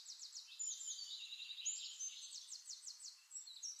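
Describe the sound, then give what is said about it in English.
Distant birds sing in quick, repeated high chirps and trills, layered over one another in a continuous, faint chorus with no voices present. “Birds singing in the distance, the breeze rustling the grass.”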